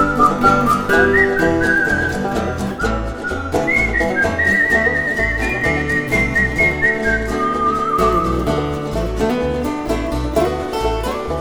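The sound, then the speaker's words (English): A clear, tuneful whistle carries a wavering melody over a steady, bouncy instrumental backing with a thumping beat, the whistling sitting prominently on top of the music throughout. “Old man a whittling down by the general store, grandma rocking out on her front porch, young boys a fishing in the old mill stream, they're a whistling that Ozark modern melody.”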